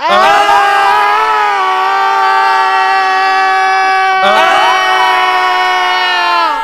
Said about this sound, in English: Forky and Earl and Phil screamed.